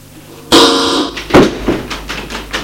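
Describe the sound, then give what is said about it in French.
A harsh buzzing burst, then a door locked by an alarm is rattled and jerked several times in quick succession, thudding against its frame without opening. Fairly loud, with no talking. “Mais la porte ne s'ouvre plus. Vous ne pouvez l'ouvrir. Elle est fermée par l'alarme.”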